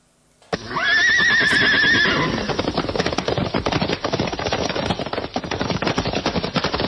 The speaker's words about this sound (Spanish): Detrás de una puerta se asoma amenazante un caballo. Los caballos de Oligor tienen algo de monstruoso.